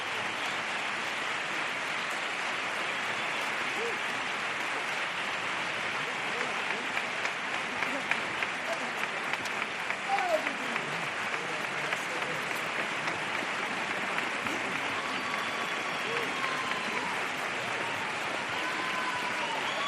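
A theatre audience, with part of the stalls standing, applauds without pause to send off a choir: a dense, steady wash of clapping that holds its loudness throughout, with a few scattered shouts rising briefly out of the crowd noise midway.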